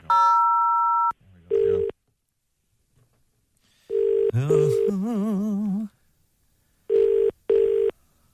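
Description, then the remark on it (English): A telephone ringing tone sounds over a phone line after dialing 0 on an automated general inquiries line, in repeated double pulses separated by pauses, preceded by a brief steady tone, with a wavering voice-like sound briefly overlapping in the middle. “It's still ringing.”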